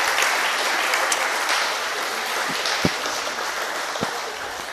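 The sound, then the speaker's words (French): Sustained audience applause thanking a speaker after his presentation, a dense, steady patter of many hands clapping at even loudness throughout, with a few sharper individual claps standing out near the end. “Je pense que on peut le remercier et l'applaudir encore parce que sans aucune image, oui.”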